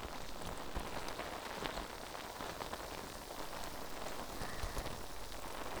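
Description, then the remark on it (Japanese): Foam bubbles fizz and crackle close to the ear during washing and massage, a dense, steady hiss of countless tiny pops that stays fairly even throughout, with no voices. “泡が耳元でシュワシュワする音、お好きですか？”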